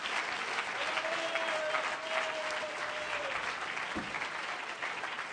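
audience clapping hands

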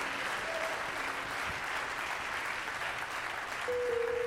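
audience clapping

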